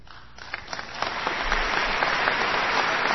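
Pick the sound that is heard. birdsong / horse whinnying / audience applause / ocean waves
audience applause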